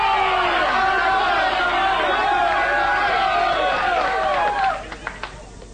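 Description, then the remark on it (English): A crowd cheers loudly, many voices shouting and whooping together in a steady roar that suddenly cuts off near the end, followed by a few scattered claps. “Why do they cheer you on?”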